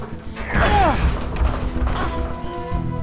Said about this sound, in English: Trying to get out of the elevator. They're prying the door open.